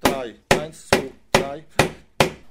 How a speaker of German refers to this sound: An einem hüfthohen Goldschlägerstein drischt Dieter Drottleff auf die Form